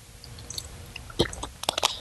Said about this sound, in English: Excuse me. I gotta have some water.